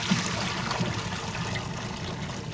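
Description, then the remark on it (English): Boiling hot water is drained steadily out of a large pot holding six sweet potatoes, a continuous gush and splatter with a faint hiss that holds even for a few seconds, with no voices. “I arrived as he drained boiling hot water from a large pot with 6 sweet potatoes.”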